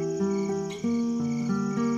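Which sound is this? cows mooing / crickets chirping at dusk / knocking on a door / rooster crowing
crickets chirping at dusk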